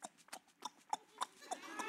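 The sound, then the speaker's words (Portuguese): Someone imitates a horse-drawn carriage as a radio-theatre sound effect, a quick, steady run of sharp clip-clop knocks, about eight hollow hoofbeats in two seconds, fairly loud with a little echo. “Fazia sonoplastia, carruagem, por exemplo, ó.”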